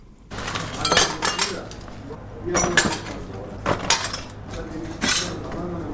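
Glass shards clink and scrape as they are gathered up in a house in the second district of Khair Khana, Kabul, damaged by a rocket, with bursts of jangling at irregular intervals over a steady low background; a voice murmurs faintly.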